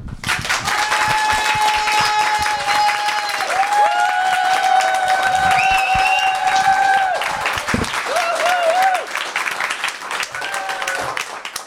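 A live audience outdoors at a community venue in Roc-sur-Garonne, gathered for an Octobre Rose event, bursts into dense, steady applause that fills about twelve seconds, many hands clapping at once, with a few sustained cheers and whoops rising above the crowd.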